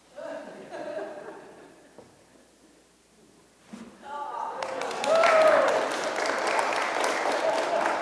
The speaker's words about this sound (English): Now, you're very nice to clap.